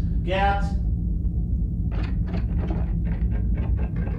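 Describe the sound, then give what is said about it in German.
Rough, repeated scraping strokes, like a sack of potatoes being dragged along a corridor, come in uneven bursts over a steady low rumble, after a brief high whining tone at the start. “Aber hörst du nicht so dieses Schleifen irgendwie? Das ist ja. Als wenn er im Gang irgendwie so einen Sack Kartoffeln hinter sich herziehen würde oder sowas.”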